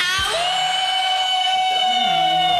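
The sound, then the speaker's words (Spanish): A she-wolf's long, drawn-out howl holds a steady, high wavering tone rich in overtones, while a second, lower howl rises and slides in partway through. Loud and continuous, with no talking. It is the she-wolf's call for the Camina con la Loba segment on Radio Disney 92.1. “escuchado el aullido, el llamado de la loba,”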